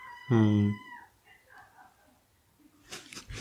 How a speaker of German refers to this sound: Dieses Quietschen, was hier im Hintergrund ist, sind die Katzen, die gerne raus wollen.